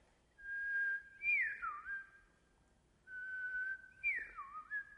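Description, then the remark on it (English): A person whistles a gentle, birdlike tune, the special song a family of birds, the Quigleys, sang together just before bed at night, in two matching phrases, each a long steady note that breaks into a quick swooping dip and wavering trill, with no talking. “And then when they, just before they went to bed at night, they sang another special song, and they all sang it together, and it went like this.”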